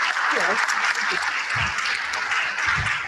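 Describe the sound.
Steady, dense clapping from a crowd fills the whole stretch, loud and continuous, with a few faint voices murmuring or cheering underneath.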